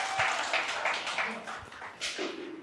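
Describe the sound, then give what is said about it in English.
An audience claps together in a steady, dense patter of applause for a few seconds, with faint voices mixed in underneath. “Can we give them a round of applause, everybody?”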